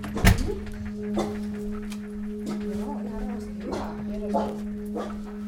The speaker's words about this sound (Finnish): Mä oletin siis suurempaa haukkua. Mäkin oletin.